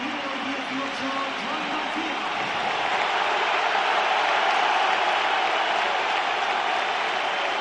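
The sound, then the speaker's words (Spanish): A large stadium crowd at a Barça football match applauds steadily as goalkeeper Raya is substituted and Joan García comes on, a dense, continuous roar of clapping mixed with scattered whistling that holds at a fairly loud level throughout. “Os voy a decir una cosa, los que estáis escuchando o viendo por la tele, en el campo se ve que hay muchos más aplausos aunque suenen pitos.”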